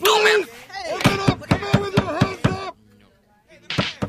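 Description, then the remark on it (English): Someone pounds on a door: about seven heavy, evenly spaced thuds, a short pause, then two more hard blows, with a raised voice sounding over the banging. “There's someone pounding at the door.”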